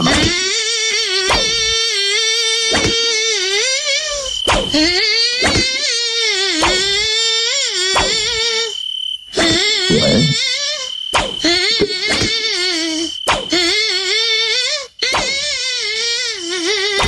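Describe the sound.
A voice hums a tune imitating a whining, buzzing mosquito, the nasal drone rising and falling in melodic phrases with short breaks, loud throughout.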